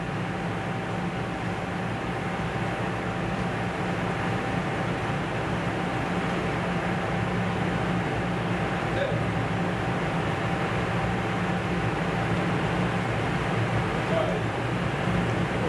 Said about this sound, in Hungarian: Tehát egyszer nézzük, hogy néz ki a repülőgép, majd látjuk, hogy emelkedik felfele, meg lefele, meg halljuk, hogy számol vissza.